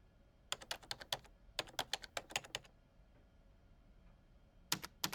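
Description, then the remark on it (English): Rapid, forceful keystrokes clatter on a computer keyboard in two quick bursts, then pause before a few more sharp taps. Crisp, with no voices. “Creator, please don't damage your keyboard.”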